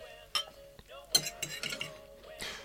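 Two wine glasses clink together in a toast, a few bright taps with a lingering ringing tone, mixed with light clatter of glassware being handled and no talking.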